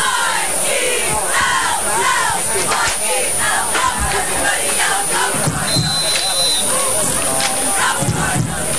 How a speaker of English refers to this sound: I love the fact that the band is doing the cheer along with the cheerleaders. That's awesome. It's teamwork. They all work together